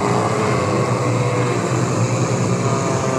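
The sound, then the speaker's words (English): A swarm-of-locusts sound effect: a dense, steady buzzing drone like a huge swarm of insects, holding one loud level for its whole length with a rough, churning hum and a hissy edge. “That sounds like a swarm of locusts.”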